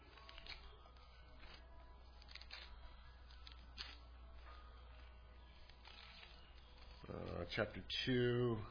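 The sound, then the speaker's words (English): A preacher turns paper pages to a Bible passage in Revelation. The pages rustle and flip in soft, intermittent bursts of crinkling over a quiet hum, before a man's voice starts speaking near the end. “I'm doing everything here with paper, so.”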